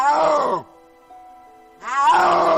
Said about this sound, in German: Das ist doppelt spektakulär, denn es gibt nur noch wenige dieser Großkatzen und sie brüllen im Gegensatz zu Löwen oder Tigern fast nie. Nur wenn sie auf Partnersuche sind. Und so klingt der Brunftschrei eines Schneeleoparden.